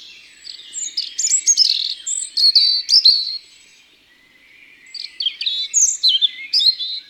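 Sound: european robin song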